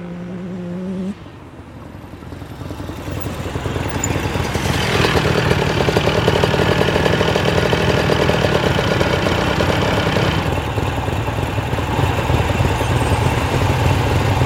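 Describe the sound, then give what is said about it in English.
A dense rumble of several engines builds up and settles into a steady, overlapping idle, loud, as many motorcycles raise a cloud of dust, pull into the driveway of a diner and tick over together. “Wow, motorcycles. Lots of them. And they're all pulling in the driveway.”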